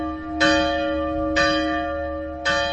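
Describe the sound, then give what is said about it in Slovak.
Church bells, four preserved historic bells hung on an iron bell frame in a church tower and driven electrically, ring out in three strong, evenly spaced strikes, each one leaving a rich, sustained hum that lingers into the next. No voices, just the tolling bells. “súčasnosti sa vo veži kostola na železnej zvonovej stolici používa štvorica zachovaných historických zvonov.”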